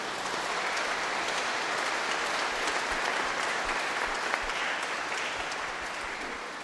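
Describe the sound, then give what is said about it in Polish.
Audience applause for the priests in a church, a dense, steady wash of many hands clapping at once, sustained at an even loudness for several seconds with no voices rising above it. “Loro si meritano un applauso.”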